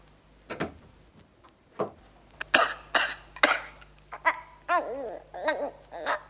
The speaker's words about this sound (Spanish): ¡Dios mío! Este niño se está ahogando. ¿Qué le pasa? Pero si lo dejé perfectamente. Ahora está ardiendo. A ver, déjame tocarlo. Está muy encarnado. Respira con dificultad. Y agita sus manecitas como si quisiera apartar algo. ¡Se ahoga, mamá!